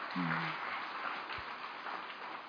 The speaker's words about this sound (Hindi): अभी हम भाई जी का फिर से थैंक्स करते हैं अच्छे से ताली बजा के।